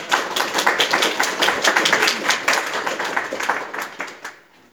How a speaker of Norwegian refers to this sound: Och då skulle jag bara be er ge en mycket varm applåd